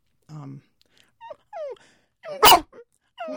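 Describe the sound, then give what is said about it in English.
A person imitates a dog's high bark with a few short, high-pitched yips and barks, followed by a louder, sharper bark and another yelp, with brief gaps between. “most owners, I guess, know that different barks mean different things, but if you listen really carefully, you can hear distinctions. So, for instance, a high bark.”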